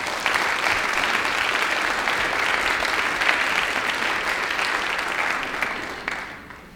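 Sustained audience applause, a dense, steady patter of many hands clapping at an even loudness for several seconds before tapering off abruptly at the end. No voices are heard.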